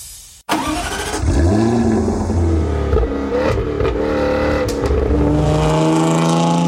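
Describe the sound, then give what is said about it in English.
A Jaguar sports car engine fires up and revs hard, its deep roar rising and falling in loud bursts before settling into a steady, throaty rumble. “And just when you thought they couldn't sound any better, the Jaguar sales event runs from the 14th to the 16th of July”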